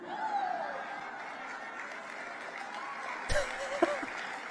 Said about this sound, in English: Muted applause from the crowd that doesn't exactly find Ted Cruz to be the epitome of male prowess, or whatever you would say.